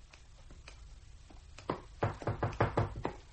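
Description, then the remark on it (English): A run of firm knocks on a door, a few soft taps and then about seven loud raps in a quick, fairly even rhythm, heard alone with no talking. “Somebody at the door.”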